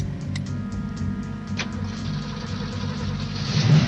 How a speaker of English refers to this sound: Bullitt buckles his seatbelt and starts the car. It's an old Ford Mustang that's seen better days. The car's finished in Highland Green, a forest green so dark it's almost black.